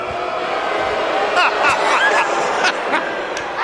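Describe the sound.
A large arena crowd boos loudly and continuously, a dense roar of voices with drawn-out jeering tones rising and falling throughout, and scattered shouts poking through.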